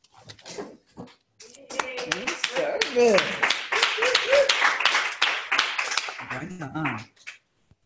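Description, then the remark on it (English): A group claps steadily for about five seconds as people doing service for OA stand and applaud service, sharp overlapping hand claps forming loud, dense applause, with voices calling out over it and trailing off as the clapping stops. “Will all people doing service for OA at any level please stand and applaud service?”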